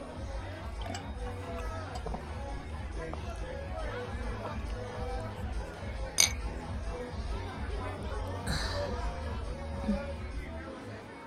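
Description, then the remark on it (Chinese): A couple of bright glass clinks ring out, one sharp and one more sustained, over a steady hubbub of many voices chattering at a lively gathering, as glasses of fine wine are clinked in a toast. “来，姐妹们，都给我放开了喝，喝痛快点儿，干杯。”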